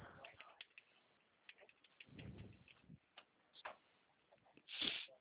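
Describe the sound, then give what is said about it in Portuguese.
Irregular bursts of quick, light clicks from keys being typed on a computer keyboard by a call agent during a phone call, with a few louder taps among them, heard through a narrow, phone-like line. “Em alguns momentos eu fico mudando a linha porque eu tô aqui digitando, tá?”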